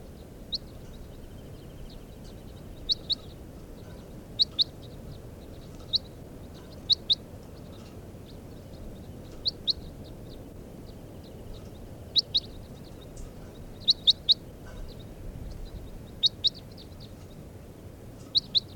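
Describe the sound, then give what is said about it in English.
Short, high calls of two stripy birds caught in a net out of a flock repeat in quick pairs and small clusters, sharp chirps sounding every second or two over a steady low rumbling background, with no voices. “Caught two birds out of that flock, both stripy birds, and the two orange males got away.”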